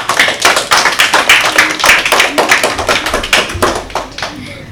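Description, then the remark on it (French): An audience applauds CP pupils who won 12 points in a quiz game, with steady, dense clapping for several seconds, bright and crisp, then thins out and fades toward the end. No one speaks. “Applaudissez-les !”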